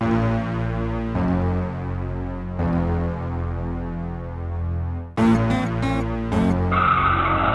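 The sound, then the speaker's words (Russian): Car tires screech loudly as the vehicle brakes hard, a long sustained squeal, followed by several short choppy bursts of skidding noise and a final rough hiss. “Знакомое лицо, даю по тормозам.”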